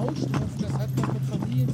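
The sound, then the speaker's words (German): Horse hooves clip-clop in a steady rhythm as horses pull a carriage and turn right when the driver pulls the right rein; the hoof strikes are sharp while a person talks over them. “du hast jetzt auch den rechten Zügel in die Hand ein bisschen gezogen. Das bedeutet für die Pferde, okay, es geht nach rechts.”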